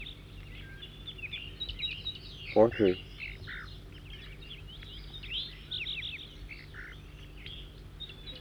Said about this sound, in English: Four, three, and back in song, trying to get the new bird again, who's giving loud flight calls occasionally. New bird.